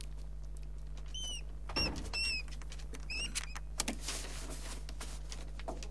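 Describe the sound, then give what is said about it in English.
A mouse squeaks in several short, high-pitched chirps, then scratchy pattering follows as it scurries about while a girl sits on the floor of a dark, dingy room playing with it. A steady low hum runs underneath throughout. “In her dark and dingy room, Sarah sits on the floor playing with the mouse.”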